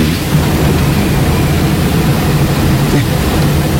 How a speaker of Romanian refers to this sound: Rulmentul de la roata dreaptă hodorogește. E sărit separatorul de la locul lui.